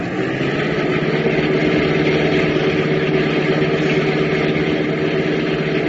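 A car with out-of-state plates speeds past at about 50, its engine roaring in a loud unbroken drone with a low humming growl that holds an even pitch throughout, with no voices.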